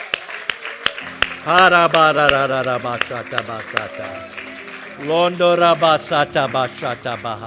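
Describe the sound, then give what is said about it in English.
An audience claps their hands in worship, sharp claps landing steadily throughout, while loud voices shout and cheer over the top in rising and falling bursts. “Would you worship the Lord with a hand clap today?”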